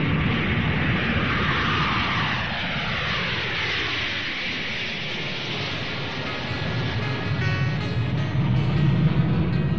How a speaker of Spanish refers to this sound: Métele caña a los motores, que despegamos.